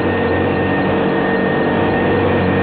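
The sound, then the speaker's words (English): A vacuum cleaner runs steadily at full power, a loud, unbroken motor roar with a droning hum and a faint higher whine, holding the same level throughout with no voices. “Sound of a clock ticking and a vacuum cleaner.”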